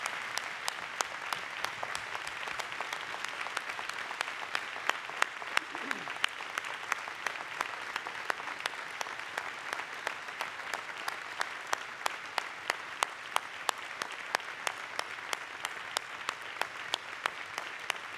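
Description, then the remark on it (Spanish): Steady, sustained audience applause with dense overlapping claps, a bright continuous crackle holding at an even level for the whole stretch, with sharper individual claps popping out now and then. “Vamos a darle a todas un gran aplauso.”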